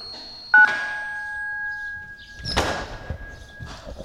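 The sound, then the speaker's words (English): A door entry buzzer sounds as a steady electronic tone, buzzing a visitor into the lobby. It starts abruptly and holds for about three seconds, with a sharp clunk partway through and faint rustling before it cuts off. “I'll buzz you into the lobby.”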